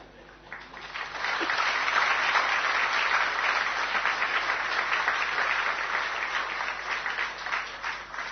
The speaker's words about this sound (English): You are clapping, but they didn't clap.